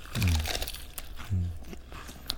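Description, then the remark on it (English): Crisp crunching as crunchy chocolate and bread snacks are bitten and chewed, a few sharp crackly bursts spread over a couple of seconds, with low murmuring vocal sounds mixed in. “This is the sound of chocolate and bread snacks going into our sweaty, salivic mouths.”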